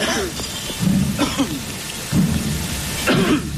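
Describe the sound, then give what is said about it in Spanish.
Steady rain patters on many umbrellas in the Plaza de Viriato, Zamora, Spain, as a Christ image is carried in procession between two rows of brotherhood members: a dense, continuous hiss of drops with a few low murmuring voices rising and fading underneath. “Solamente se oyen las gotas de agua que caen sobre los numerosísimos paraguas que podemos divisar desde la casa del Obispado de Zamora”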